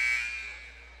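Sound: basketball arena buzzer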